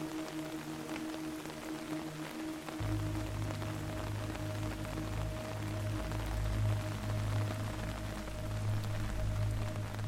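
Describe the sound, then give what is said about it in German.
Steady rain patters continuously throughout, a dense hiss of drops, while a low humming drone with faint sustained tones swells in after a few seconds and holds beneath it. “Du lauschst dem Rhythmus des Regens und dem Murmeln des Windes.”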